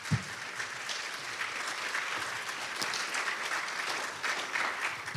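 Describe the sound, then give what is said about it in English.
A crowd applauds the missions team steadily, a dense, even wash of many hands clapping at a moderate level that holds for the full stretch without pausing or building. “Have a big round of applause for our missions team and all the work they do.”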